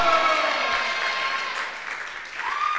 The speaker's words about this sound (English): Oh, I thought you would shout louder and clap bigger than you are doing.